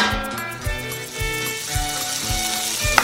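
A frying pan sound effect: a steady, crackling sizzle over sustained tones and soft, evenly spaced low thumps, with a short, sharp accent near the end. No one speaks.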